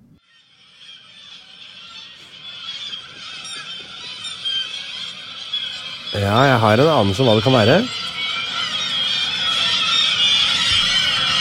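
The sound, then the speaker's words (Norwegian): Air squeals from the stretched neck of a half-inflated balloon being pulled apart, in a loud, warbling burst of about two seconds, pitch wobbling up and down rapidly, over a background of people talking. “Det internasjonale foreningen for å blåse opp ballonger halvfulle, og så dra de fra hverandre hit uten, sånn at det kommer sånn litt ut?”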